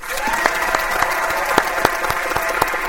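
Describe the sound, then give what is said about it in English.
A canned applause sound effect played in a Google Hangout video call: many hands clapping in a steady, dense patter with sharp individual claps popping out, at an even moderate loudness throughout, with no voices. “Google Hangout has sound effects.”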